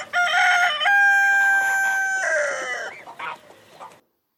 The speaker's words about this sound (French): Où as-tu entendu le coq ?